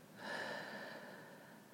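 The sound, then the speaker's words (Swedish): A slow, steady breath exhaled through the mouth after a deep inhale through the nose, soft, starting with a gentle rush of air that gradually fades over a couple of seconds. No talking. “Och släpper långsamt ut genom munnen.”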